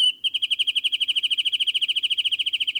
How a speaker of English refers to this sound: The chaparral comes alive then with the songs of birds, among them this California thrasher.